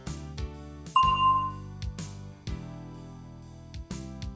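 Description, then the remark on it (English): A single bright bell chime, the cue to say an answer in a listen-and-answer exercise on the program New Dynamic English, rings out clearly and fades over about half a second, set against a soft, steady musical backing with light rhythmic beats and no talking. “Listen for the bell, then say your answer.”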